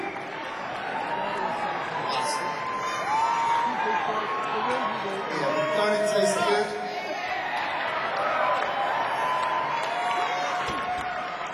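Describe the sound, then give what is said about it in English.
A large audience murmurs and calls out continuously, a dense wash of many voices with occasional louder shouts and faint clapping, steady throughout with a slight swell in the middle. “You've been a beautiful crowd, I've got to tell you.”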